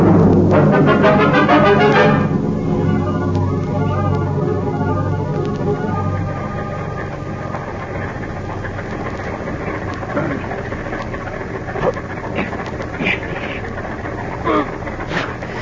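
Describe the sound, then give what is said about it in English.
A car engine turns over inside a closed garage, bursting into a loud, rough roar for a couple of seconds before settling into a steady low idling rumble with a hissy wash over it. “We just lock him in this closed garage to breathe the gas. Tonight, when it's dark, we get rid of their bodies and their car. Start the motor.”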